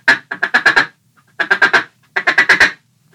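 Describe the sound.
A duck call imitates a lone hen mallard: three quick strings of four or five loud, nasal quacks, separated by short pauses, with no talking.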